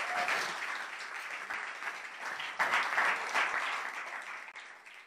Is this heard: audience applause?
yes